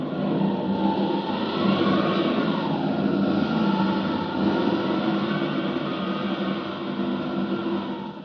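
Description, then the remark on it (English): A mine-shaft explosion heard as a loud, continuous rumbling roar that holds steady for about eight seconds, dense and low, then eases slightly at the end; no voices. “Quick, I hear it! The explosion!”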